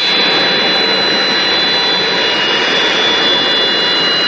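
A loud, steady jet engine roar of a Beriev Be-200 aircraft, able to carry more than 12 tons of water, landing at Niš airport in Serbia, fills the whole recording, a broad continuous rush with a thin high whine running through it, with no voices.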